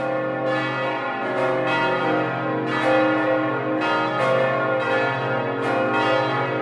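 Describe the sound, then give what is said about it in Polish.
A large church bell, rung by bell-ringers taking turns in shifts, tolls repeatedly in a slow, steady rhythm, each deep clang overlapping the long ringing hum of the previous stroke, loud and resonant with no voices. “ale również gdy umierają ważne postaci dla świata, dla miasta i wtedy w trakcie pogrzebów dzwonimy.”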